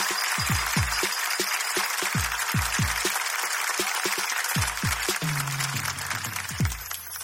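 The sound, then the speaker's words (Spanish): A show audience applauds at the start of the show in a dense, steady wash of clapping that lasts the whole clip, layered over a pounding, rhythmic low bass thump with no one speaking. “Fuerte aplauso para comenzar con el show, pero fuerte, fuerte, fuerte.”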